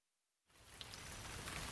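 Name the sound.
rain falling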